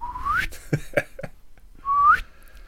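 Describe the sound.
Someone whistles an imitation of a slide whistle, twice, each tone gliding smoothly upward in pitch, with a few short clicky vocal sounds in between; fairly loud.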